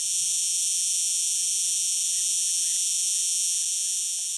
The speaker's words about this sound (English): Probably the loudest thing they'd hear regularly is insects, like cicadas.